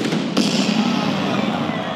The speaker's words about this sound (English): And then the cannon goes off.